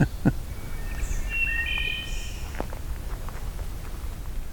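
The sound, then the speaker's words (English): A wood thrush sitting right in front of the recorder sings a clear, flutelike phrase with a breathy high trill, moderately loud, over steady outdoor background noise with a few rustling steps. “It appears there's a wood thrush sitting right in front of the first recorder I put down.”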